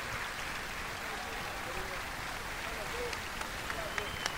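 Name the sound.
theatre audience applause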